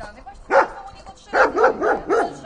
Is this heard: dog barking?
yes